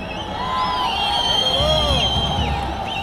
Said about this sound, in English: And then a huge cheer goes up. All of this cheering is because they've just hoisted a giant flag on top of a huge building.